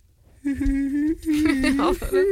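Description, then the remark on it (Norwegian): A person's voice imitates a dog whimpering and squealing, a strained, high, wavering whine sustained for about two seconds, fairly loud, with a brief break in the middle. “Men jeg skjønner at han piper og skriker når Tara passer. Du Tara overdrev, jeg kan gjøre det riktig.”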